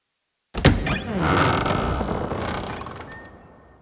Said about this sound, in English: Suddenly, the door opens, and Miss Dodson enters the room.